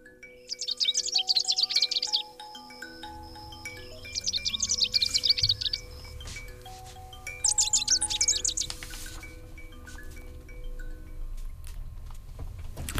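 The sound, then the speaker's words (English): Rufous-crowned sparrow song: three bursts of rapid, high, chattering notes a few seconds apart, layered over sustained chime-like tones and a low rumble. No one speaks. “Rufous crowned sparrow.”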